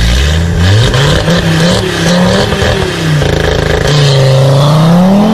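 An old-generation Audi TT RS engine growls and revs, its low harmonic pitch rising and falling through several throttle swells, loud and continuous with no talking.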